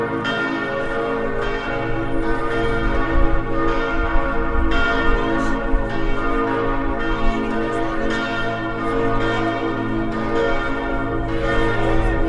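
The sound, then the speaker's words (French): Several large bells ring together in a steady, overlapping peal, loud and reverberant, their tones sustaining and blending for the whole stretch with no voices. “Tu vas lui sonner les cloches, c'est bien ça. Va lui sonner les cloches.”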